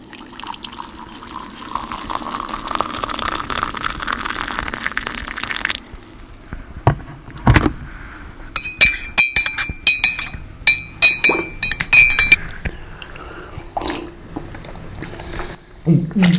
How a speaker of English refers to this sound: I had to try the tea for myself. I prepared a cup of Earl Grey with a splash of milk and two sugars.